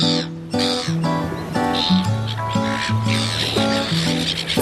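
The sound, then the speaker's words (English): Raucous seagulls calling loudly, their harsh cries overlapping in a steady stream for several seconds, with a busy, layered backdrop beneath them. “Get out of it, bloody seagulls.”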